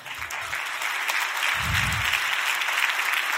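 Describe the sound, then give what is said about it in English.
A crowd claps in a steady, scattered patter that never swells into a full ovation, with a few low thumps underneath. No one speaks over the applause. “You got that hesitant clap like, is he about to tell us but we're really filthy rags?”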